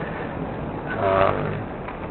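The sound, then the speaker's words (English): A truck's low, steady engine rumble with road and wind noise, swelling briefly in the middle as it rolls slowly while pulling up to park at an aquarium, then settling back to a constant hum. “I'm just pulling up to the aquarium, so I will park the truck, bring my tools into the rehab area, and get ready to tag the turtle.”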